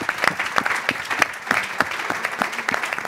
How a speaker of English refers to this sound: And we don't do enough to celebrate apprenticeships as we get to the end. Give them a round of applause on that. Yeah.